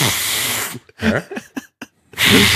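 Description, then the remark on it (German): Someone imitates a fart with their mouth: a long, hissy blown burst, a few short sputtering puffs with a buzzy voiced edge, then another long breathy blast. “Wie macht man das, dieses Pups?”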